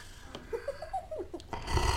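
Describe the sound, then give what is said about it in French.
A voice imitates a sleeping monster's loud snoring: a wavering, gliding drone that rises and falls for a second or so, ending in a harsh, breathy rasp as the breath is pushed out. “Il ronfle très fort.”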